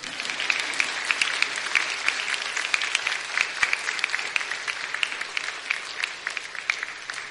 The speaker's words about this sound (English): This is when you can clap.